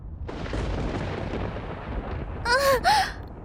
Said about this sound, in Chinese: 啊，我，好可怕，好大声，好恐怖的闪电。